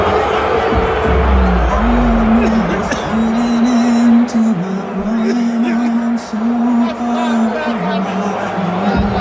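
A large stadium crowd boos loudly and steadily from multiple portions of the stadium, though not the entire stadium: a low sustained droning roar that swells and dips slightly over several seconds amid general crowd noise.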